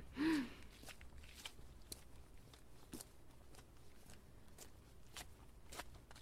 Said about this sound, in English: I think I hear your footsteps.